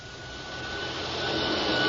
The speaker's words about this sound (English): Shut off the vacuum, will you?